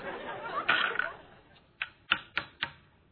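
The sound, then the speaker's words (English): Dice rattle and tumble across a hard game board during a board game, then come to rest with four sharp clacks in quick succession. No one speaks. “Just roll the dice.”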